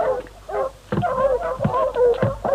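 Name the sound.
small dog barking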